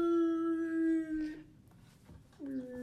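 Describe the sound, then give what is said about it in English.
A voice imitates whale song with a long, mournful, wavering moan, then a short pause and a second rising, howl-like note, fairly loud. “Are you playing whale noises?"”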